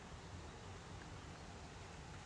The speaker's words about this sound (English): It's raining, just a little.